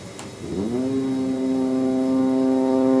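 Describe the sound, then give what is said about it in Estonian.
A foghorn sounding evenly every 15 seconds howls, swooping up in pitch at the start and then holding one loud, deep, buzzing tone that drones on steadily with no voices. “Udusireen huilgas ühtlaselt iga 15 sekundi järel.”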